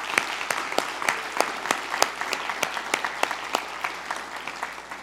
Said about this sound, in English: Shall we applaud and celebrate this day? Yay.